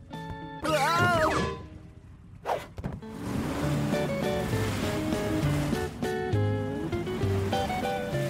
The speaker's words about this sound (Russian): Ого, что-то море сильно штормит